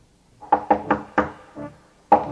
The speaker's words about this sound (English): Finally, on the night before the last day of Pesach, Rabbi Heskel was sitting exhausted in his study, trying to keep his eyes on a large volume of the Shulchan Aruch, when suddenly he heard a loud knocking on the door.